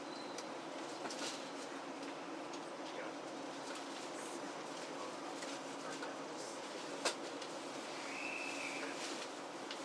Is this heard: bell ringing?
no